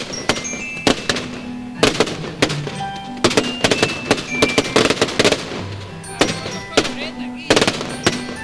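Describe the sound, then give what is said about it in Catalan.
Fireworks from a fire run at the Fragata beach crack and bang in irregular bursts, sharp loud pops coming every second or so, with steady tonal music or whistling sounding faintly beneath them. “Estem encara nosaltres a baix, a la platja de la Fragata, i realment el foc no és que faci fred, però l'escalfor arriba amb força.”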